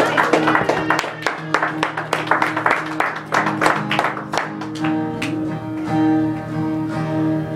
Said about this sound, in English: Let's give the Lord a hand clap of praise and worship. Hallelujah! Hallelujah!